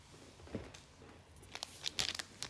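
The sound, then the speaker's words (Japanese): The plastic packaging of a Tenga Pocket being torn and crinkled open, with a short rustle early on, then a cluster of sharp, crackly rips and crinkles toward the end. No one speaks. “ではテンガポケットを開けていきますね。”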